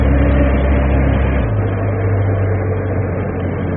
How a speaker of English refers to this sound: No, but you can't be too healthy sleeping in a subway in the middle of a traffic roundabout like this. I mean, all the fumes, all the noise.